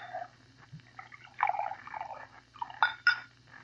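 Bourbon pours into a glass in short gurgling splashes, ending with a couple of bright glassy clinks over a low steady hum.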